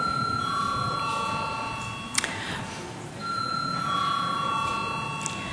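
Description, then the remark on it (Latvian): An electric chamber bell in the Latvian parliament rings at the close of a debate, before a vote, with a steady, high metallic buzz-tone, pausing briefly before ringing on again, sustained and fairly loud throughout with no talking. “Debates slēdzu, lūdzu zvanu.”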